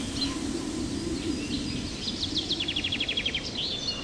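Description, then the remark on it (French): Forest ambience with a steady soft background wash, scattered high chirps, and a bird's quick trill of about ten rapid repeated notes near the end, with no one talking. “Raoul, Mina, Chonchon et Plume se promènent dans la forêt et Raoul se fâche.”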